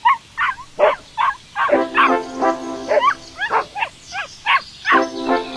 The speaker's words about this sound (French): Un chien qui bat de la queue en aboyant, les oreilles toutes droites, montre sa joie du moment et son impatience.